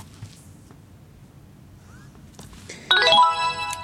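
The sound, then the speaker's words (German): A device's electronic start-up signal after its on/off button is pressed: a slight vibration tone, then a bright chime-like melody of several rising tones, sounds suddenly near the end after a few seconds of near silence with low background hum. “Ich muss warten, bis ein leichter Vibrierton kommt und dann dieses Signal.”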